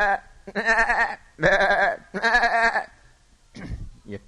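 Three loud, wavering bleats of a goat in quick succession, each about half a second long, followed by a shorter, falling bleat near the end.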